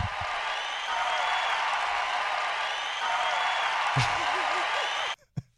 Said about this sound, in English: I like the applause on loop. I like that. Very, very good.